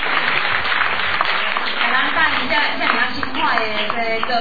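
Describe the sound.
An audience at a concert applauds steadily to welcome a band, dense overlapping clapping for several seconds at an even, fairly loud level, with a faint murmur of voices mixed into the crowd noise.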